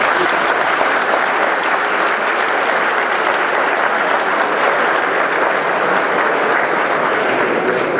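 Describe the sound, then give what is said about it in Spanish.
Steady audience applause at a CONALEP event, given for Kazuki Otsuka, director of JICA México, fills the whole stretch, a dense, even wash of many hands clapping at a constant loudness with no voices rising above it. “Muchas gracias, como lo mencionó aquí Francisco Cuauhtémoc, sí, denle el aplauso, por supuesto.”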